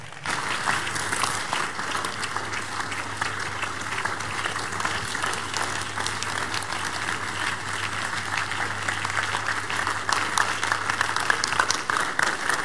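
An audience on its feet breaks into sustained, dense applause for Jesus as a clap offering, many hands clapping steadily for the full stretch at an even loudness, with a low steady hum underneath and no talking.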